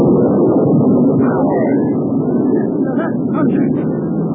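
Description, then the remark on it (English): A deep, loud rumble of thunder during a storm rolls on steadily without a break, thick with low booming energy, while faint higher tones flicker above it. “As I've heard that some people hide their heads during these storms.”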